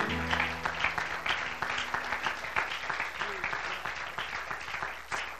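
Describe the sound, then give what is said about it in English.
A large audience at a church service applauds steadily for the Lord, a dense wash of many hands clapping at once, with faint voices and a low hum beneath. “Could we clap one more time unto the Lord?”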